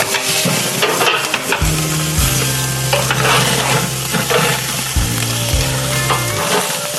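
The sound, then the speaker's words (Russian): Zucchini pieces, cut lengthwise and laid cut side down, sizzle on a grill grate in a steady crackling hiss that runs the full length without pause, over a low droning hum and with no one speaking. “Кабачок, кстати, когда начинаешь делать на гриле, да, ага, вот так вот, я его специально режу вдоль, вот так вдоль, и кладешь на срез первым делом на решетку.”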